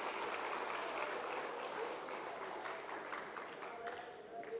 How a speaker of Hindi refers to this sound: जोरदार ताली बजाएं और बैठ जाएं सभी।